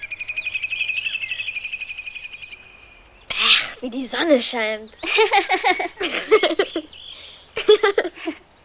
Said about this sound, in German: wie die Vögel zwitschern.